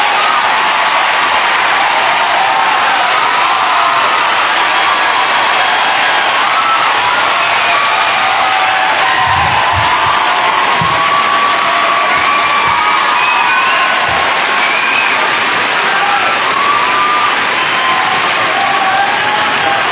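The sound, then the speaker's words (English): A large audience cheers and applauds loudly and continuously for Kevin Smith as he is introduced, a dense roar of clapping, whoops and shouts that holds steady the whole time with no pause. “There's signs that say applause, because I don't think I've ever gotten a reaction like that.”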